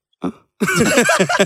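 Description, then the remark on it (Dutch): Someone who has been drinking tries to force a burp: a short guttural grunt, a pause, then a longer strained, croaking throat sound that never quite becomes a proper belch. “Kun je geen boeren laten?”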